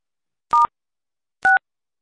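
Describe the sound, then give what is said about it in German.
Two short electronic keypad beeps from a telephone being dialed, each a clean dual-pitched tone, spaced about a second apart with silence around them. “Auf seine Telefontasten.”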